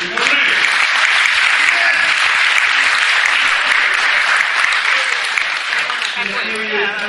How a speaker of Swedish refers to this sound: Jag tycker väl att vi har varit så ute idag så att vi får ge varandra en riktigt rungande applåd.